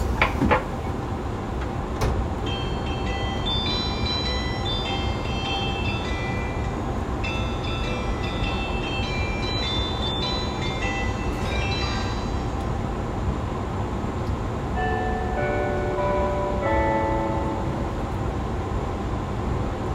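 Bright electronic chimes, the four onboard chimes of car No. 6 (KuHa 185-312) of a 185 series train, play several short melodic sequences one after another over a steady rumble of the train car interior, each tune a few tones, clear and without any talking.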